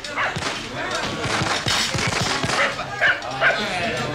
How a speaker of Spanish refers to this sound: ¿Qué es eso? Ah, sí, claro, los cohetes y el ladrido de los perros despavoridos de susto.